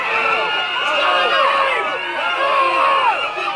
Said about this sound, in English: People on the bus have now noticed and they start standing up, screaming in a total panic.